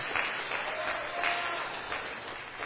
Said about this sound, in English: Why are we clapping for that? Who started that?